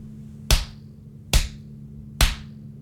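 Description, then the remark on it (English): Three sharp hand slaps on skin, a slow, deliberate spanking, land one by one at an even pace, each a crisp smack that fades quickly over a faint low hum, with no voices. “I'll start my punishment by spanking you slow, slow and deliberate slaps.”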